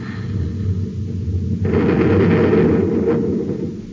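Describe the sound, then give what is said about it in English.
A low, heavy rumble builds, then a loud blast from both of a ship's atom cannons, fired to destroy an approaching ship, erupts into a sustained roaring explosion that booms for a couple of seconds before slowly fading. No voices. “Pap, stand by to fire both atom cannons.”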